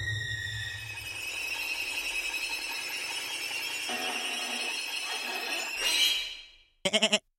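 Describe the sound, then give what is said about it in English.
A long, loud, strained bleat holds steady for several seconds, swells and fades, then ends in a quick burst of shaky, stuttering bleats. It sounds like a goat, with no talking. “You've manifested your soul into a goat!”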